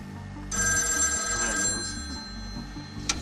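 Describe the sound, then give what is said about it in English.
A modern push-button telephone in the Mojave Desert rings with a loud, continuous bell tone that starts after a brief moment of quiet and carries steadily for several seconds, alone in the desert silence with no traffic or voices, ending with a small click. “In the total silence of the desert, no traffic, no voices, no hum of any kind, a ringing phone was almost violent, and you couldn't ignore it.”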